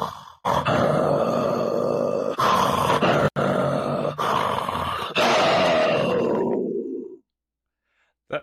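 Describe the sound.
A person imitates a tiger's roar: a loud, rumbling growl sustained for about seven seconds with a few brief catches, then trailing off into silence. No one speaks.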